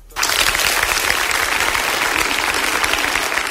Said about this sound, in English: Can we give Jason a round of applause?